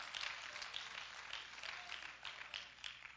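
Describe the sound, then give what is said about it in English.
A crowd claps their hands together in a steady, dense patter of applause that continues for several seconds, sounding soft, with no one speaking. “I think somebody ought to clap their hands and praise the Lord about that.”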